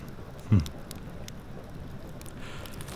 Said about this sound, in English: There we go. Blimey. That's some heavy rain. I was only in it for, 30 seconds? And I feel soaked already.